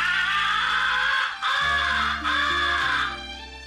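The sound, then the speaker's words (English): Three drawn-out, raspy crow caws blown on a game call as the recognition call, loud, each long and nasal with brief gaps between them. “After the crows have turned and are coming to your blind, switch to the second essential call, the recognition call.”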